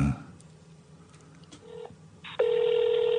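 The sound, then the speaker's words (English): An outgoing phone call's ringing tone to a phone abroad: a brief beep, then a loud, steady electronic tone that starts abruptly and holds to the end, heard over a quiet line after a short burst of voice. “That's an abroad phone.”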